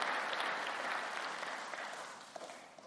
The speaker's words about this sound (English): Praise be to the Lord. Can we give a clap offering to our Lord Jesus Christ?